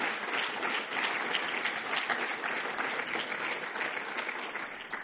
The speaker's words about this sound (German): 36 Jahre. Ich glaube, das ist einen Applaus wert.